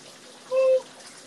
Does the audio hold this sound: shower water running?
yes